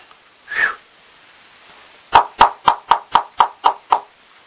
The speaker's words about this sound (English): As soon as the trance was over, there was a knock at the door.